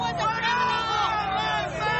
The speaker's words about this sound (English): They booing him.